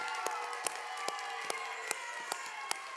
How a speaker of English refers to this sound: And so give them a round of applause.